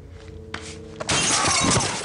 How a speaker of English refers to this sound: He smashes the commendation into Chris's face.